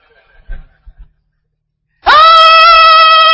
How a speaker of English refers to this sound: And they are screaming.